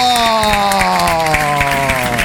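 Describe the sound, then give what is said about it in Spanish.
Loud, steady audience applause welcoming a guest onto the virtual stage of Detonado Radio Show, a dense patter of clapping layered over sustained, slowly falling musical tones, with no one speaking. “para subirse a este escenario virtual acá en Detonado Radio Show y la vamos a, como siempre, recibir con un fuerte aplauso, ¿eh?”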